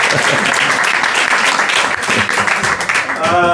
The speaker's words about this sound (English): So please, one big applause for my helper. Thank you. Bravo. Well done.